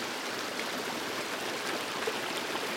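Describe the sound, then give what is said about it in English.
Steady flowing water, like a stream running continuously, with an even, full rushing texture and faint bubbling details throughout, heard alone with no voices. “And the sound of water rushes to your stomach.”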